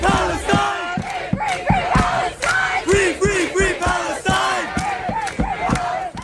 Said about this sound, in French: Des tentes, des drapeaux, des étudiants de divers horizons et un même slogan entonné par la foule, ici à l'Université du Texas, à Austin.